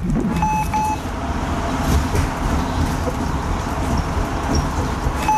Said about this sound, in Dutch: Nou, kijk, bus 300, dat is hem die ik moet hebben. Dus we gaan instappen.